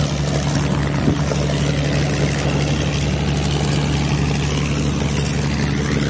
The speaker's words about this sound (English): The Supermarine Spitfire.